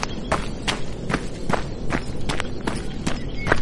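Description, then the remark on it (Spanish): Quick, evenly spaced footsteps thud along at a running pace, about nine sharp strikes in a few seconds, steady in loudness over a soft background rumble, as someone runs out of the hut where he lives. “Cibotas dejó a su padre con la palabra en la boca y salió corriendo del chozo en que vivía.”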